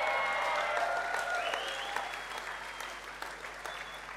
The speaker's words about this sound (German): Und wisst ihr, warum das dieser Applaus jetzt so ziemlich verhalten war? Weil uns Sündevergebung irgendwie nicht so nah ist.